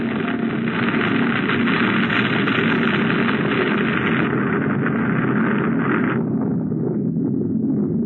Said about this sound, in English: What was that? Get out of the car, quick! An avalanche!